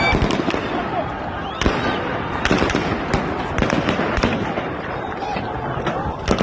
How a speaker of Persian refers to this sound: ویدیوهای مانند این نشان می‌دهد نیروهای امنیتی به طور مستقیم به مردم شلیک کردند. گاهی مثل این تصاویر در شیراز، ماموران امنیتی هنگام فرار به سمت معترضان شلیک کردند.